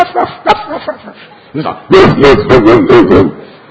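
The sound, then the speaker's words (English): After some brief vocal sounds, a person loudly imitates the deep barking of huge dogs behind the gates of houses, about six quick gruff barks in a rapid, frantic burst. “Huge dogs with deep voices. Everyone just barking, and they're just barking insanely.”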